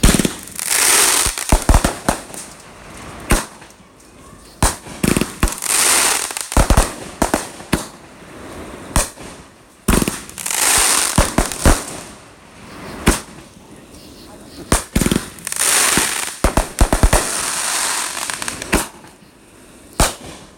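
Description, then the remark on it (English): Rapid bursts of firecrackers and fireworks, being lit by people beside a road, crackle and pop in dense clusters, some sharp bangs right in front of them, continuing in waves with brief lulls for about twenty seconds. “I didn't have fireworks in my drink.”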